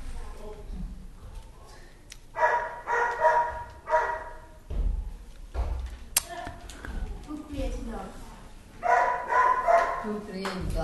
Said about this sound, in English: The dogs, they like to bark together. That's their pleasure pastime. When one dog barks, all the dogs bark. That's their feeling of camaraderie with each other.